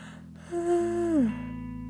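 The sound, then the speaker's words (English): A single vocalized yawn, a drawn-out voiced tone lasting under a second that holds steady and then slides down in pitch as it trails off, with no talking. “Sorry, I had to yawn.”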